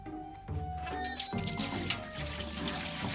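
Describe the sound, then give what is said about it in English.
Water flows in a steady, continuous rush for a few seconds, fairly loud, with a soft sustained musical tone running underneath. “What about water? God will provide that, too.”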